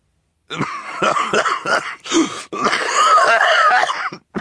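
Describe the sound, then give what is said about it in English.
A man coughs repeatedly in rough, muffled bursts into a white handkerchief, with a short break before a longer, wheezing coughing fit; fairly loud, with no talking. “holding a glass of parsley soda and coughing into his white handkerchief.”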